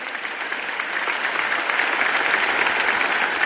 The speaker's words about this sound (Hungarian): A Szent Atya köszönetét fejezte ki nekik, majd a hívek hangos tapsát kérte a szolgálatot teljesítőknek. Grazie, forte applauso per quelli che servono.